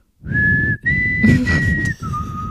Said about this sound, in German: Wow. Wow, wow, wow. Das war schlecht gepfeift. Gepfiffen. Gepfiffen. Ich fand's wunderschön.